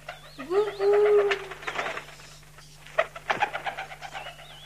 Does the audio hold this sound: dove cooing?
yes